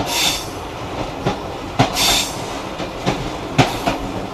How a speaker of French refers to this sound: le train couchette suscite un engouement particulier. Sur les 400 places disponibles, il y a un peu plus de 100 voyageurs dans les voitures.